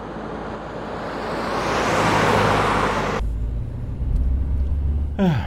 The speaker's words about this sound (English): I didn't realize I'd be spending half my time riding in a car.